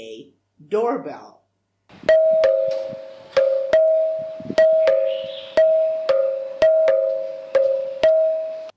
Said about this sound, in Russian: Вы также можете комбинировать эти звуки для создания современных мелодий. Например, здесь комбинация звуков храмового и школьного колоколов дает звучание современного дверного звонка.